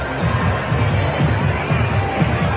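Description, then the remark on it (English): A dense, steady roar of a large crowd at a Trump rally in Butler, Pennsylvania, attended by over 100,000 people by the Trump team's count; countless overlapping voices blend into a continuous loud murmur with no distinct words standing out. “Nobody else can get that crowd in politics.”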